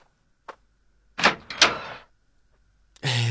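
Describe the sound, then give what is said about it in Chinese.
A small click, then a rattling clatter of a door being unlatched and pulled open over about a second for a father returning home. After a brief pause, a voice begins speaking at the very end. “快去开门。”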